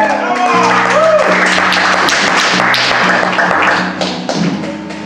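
A crowd at a comedy show claps and cheers as the next comedian is introduced, a dense, loud burst lasting several seconds, easing slightly toward the end, with some music playing underneath.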